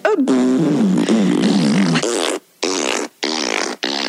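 A long, loud, buzzy fart sound with a wobbling pitch, followed by three shorter blasts in quick succession, close up and with no talking; it may be mouth-made rather than real.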